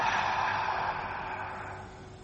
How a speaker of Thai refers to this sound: หายใจเข้าหายใจออกจิตเป็นคนรู้หายใจเข้าลึกๆลึกอีกลึกอีกลึกอีกลึกค้างไว้ก่อนให้ปอดมันขยายให้หัวใจมันผ่องแผ่วเต็มที่เลยท่ากว้างไว้ก่อนขยายไว้ก่อนคายออกมา